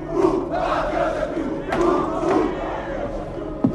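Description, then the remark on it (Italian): A large crowd of arditi and fascists cheers and shouts in acclaim of Mussolini outside the office of Il Popolo d'Italia, a dense, continuous roar of many voices with swelling waves and a few sharper cries rising above it. “Dalle persiane aperte guarda la folla che lo acclama.”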